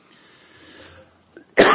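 coughing

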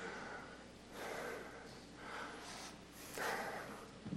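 sneeze

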